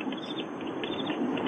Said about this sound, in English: And I'm hearing crickets in a campfire.